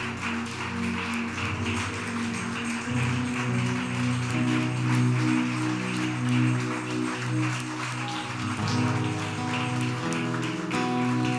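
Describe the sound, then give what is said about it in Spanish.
A crowd applauds in praise of Jesus, clapping steadily and densely throughout, a continuous crackling wash of many hands, layered over sustained, droning music chords that shift in pitch partway through. “Vamos, dale más fuerte ese aplauso a Él.”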